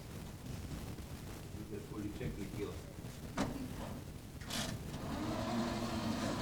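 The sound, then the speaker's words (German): A small car with a little animal family sitting in it drives around in circles, its motor humming steadily, with a couple of sharp clicks and rattles along the way and the engine note swelling slightly near the end. “Die dürfen ruhig noch mal im Kreis fahren. Die finden einfach den Ausweg nicht.”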